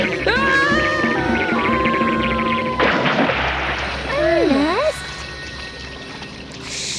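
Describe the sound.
A person crossing a plank falls into the shallows of a river in Argentina with a sudden, fairly loud splash, with excited voices talking before and after it and a watery, sloshing wash trailing off.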